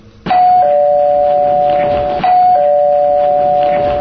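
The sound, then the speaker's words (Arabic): A doorbell rings twice, each press a loud electronic two-tone chime whose bright, steady tones ring on and overlap. No one speaks. “افتح الباب يا بني.”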